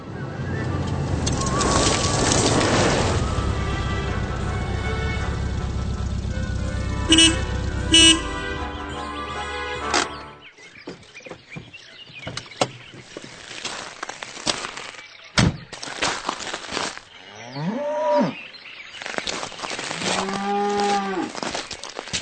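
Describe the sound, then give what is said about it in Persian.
Countryside ambience as someone arrives by vehicle in a rural area: the steady rumbling drone of the moving vehicle gives way to scattered knocks and faint bird calls, then cattle moo, a couple of drawn-out lowing calls near the end. No one speaks. “ببخشید آقای پروفسور، اما اینکه در این صحنه صدای حرکت خودروی می آید و اینکه شخصی به یک منطقه روستایی می رسد کاملا آشکار است.”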